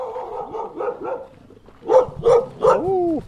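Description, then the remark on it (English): Dogs at an artist's studio in Little Compton barking at arriving visitors in short bursts, starting with softer yips and building to three loud, sharp barks, ending in a drawn-out whining howl. “And we have now arrived at another artist's studio where we meet the dogs before we meet the artist.”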